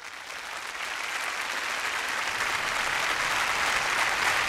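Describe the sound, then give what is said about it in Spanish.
A concert audience applauds conductor Georg Solti as he comes out on stage before conducting the choirs and the London Symphony Orchestra in Borodin's Polovtsian Dances from Prince Igor. A dense wash of clapping swells slightly and holds at a loud, even level throughout, with no voices rising above it. “El público aplaude a Sergiorg Scholti, quien ha salido al escenario.”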